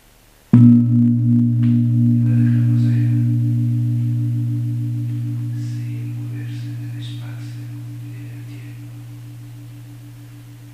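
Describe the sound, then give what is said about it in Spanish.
A single gong strike at about half a second, its deep, warm hum sustaining and slowly fading over ten seconds, with faint soft voices murmuring briefly in the background. “E quando vuelva a sonar el gong, nos concentramos en el labio superior.”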